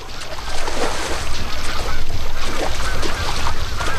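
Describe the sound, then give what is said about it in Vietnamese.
A busy great cormorant breeding colony of hundreds of thousands of birds, with nests of branches and dry grass where Buer Lake meets the Khankin River, calling with many overlapping guttural croaks and honks forming a steady, dense chorus over a constant wash of background noise. “Đây là tổ của chim cốc đế.”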